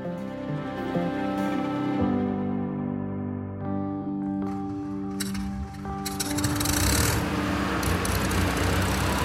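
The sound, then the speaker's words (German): Heavy diesel tractor engines run steadily and loudly before sunrise as farmers drive to meeting points on their first day of protest in Brandenburg, Germany, their deep droning hum growing rougher and more rattling toward the end, with no voices present. “Die Sonne war noch nicht mal aufgegangen, da waren Sie schon auf den Beinen und auf Ihren Treckern, die Bäuerinnen und Bauern an ihrem ersten Protesttag, beispielsweise hier in Brandenburg, auf dem Weg zu Treffpunkten.”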